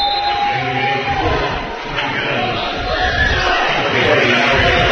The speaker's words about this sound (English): 47 seconds left as she gets a good round of applause from the fans here.